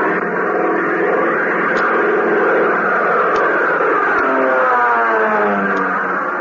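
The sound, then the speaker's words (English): The engine of the plane CX-4, flown by Hop Harrigan and coming in to the control tower, roars steadily for several seconds, a loud, dense drone whose pitch wavers and slides downward near the end, with no voices over it. “Fellas, doesn't the roar of that plane give you a thrill?”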